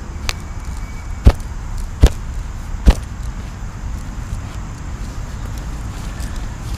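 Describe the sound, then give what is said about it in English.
Three heavy, dull thuds of feet stomping a grass clump back into place over refilled dirt, evenly spaced about a second apart, over a steady low outdoor rumble. “And now we're gonna stomp on it really good.”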